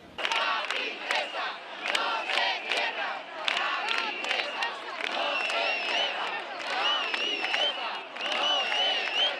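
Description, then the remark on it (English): A large crowd of La Princesa hospital workers chants and shouts in unison in protest, voices rising in rhythmic bursts with some cheering and a few sharp whistles over the steady roar. “La Princesa's workers have been staging an indefinite sit-in for more than 90 hours inside the hospital.”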